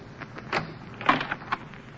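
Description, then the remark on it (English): A closet door with a mirror on it opens with a few soft creaks and knocks, a brief cluster of wooden clicks and scrapes, fairly quiet, with no voices. “There's a mirror on the door of that closet to your right. Open it and see how you've improved.”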